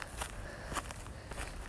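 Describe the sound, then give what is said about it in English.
Footsteps crunch through dry grass as a person walks, about three unhurried steps with soft rustling between them, fairly quiet against a low background rumble. “As you can hear, I'm walking in the grass right now.”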